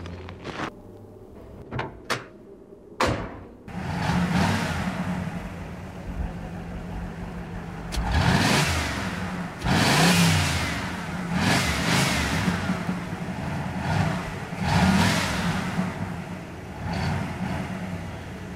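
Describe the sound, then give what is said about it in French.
A few sharp knocks, then a car engine straining and revving in repeated loud surges as the car is stuck in snow and its wheels can't get traction, while it begins to snow. No one speaks. “Je vais descendre, monsieur. Je vais placer quelques branches sous les roues.”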